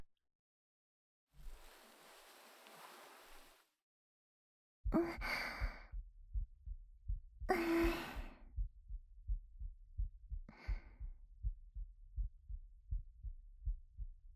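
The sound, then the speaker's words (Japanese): A soft breathy exhale, then a muffled heartbeat thumps in a steady, slightly quick rhythm, with a couple more sighing breaths drifting over the pulse. “心臓の音少し早いかもしれないけど、聞こえる？”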